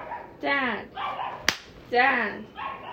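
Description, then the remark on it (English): A nervous, tense pet dog, made to panic by a man, lets out four strained, whiny barks in quick succession, high-pitched with wavering tone, and a single sharp snap cracks out between them. “You're making this dog panic attack.”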